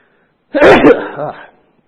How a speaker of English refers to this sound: Sorry, I'm about to sneeze.